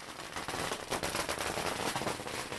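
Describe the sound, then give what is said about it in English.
A long string of firecrackers pops in rapid, dense bursts at a wedding in China as the couple make their way to a roast duck restaurant, crackling loudly and continuously like rattling gunfire for the whole stretch, with no voices audible. “And amid a hail of firecrackers, the happy couple make their way to a roast duck restaurant, where their celebration will be held.”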